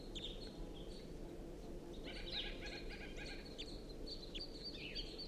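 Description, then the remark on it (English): A wild bird perched in a tree above a net sings a run of high, bright chirping phrases at about 6 AM, the notes coming in quick repeated bursts over a steady low background hum, with no talking. “It's recording a wild bird. It's perched in the tree above the net now, singing.”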